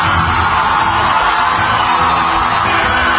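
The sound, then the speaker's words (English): A loud, unbroken wall of high-pitched screaming from a large audience of 13-year-olds as the season three winner of The Voice is announced, sustained for several seconds with no pauses and no one speaking. “I'm screaming 13-year-olds in the audience.”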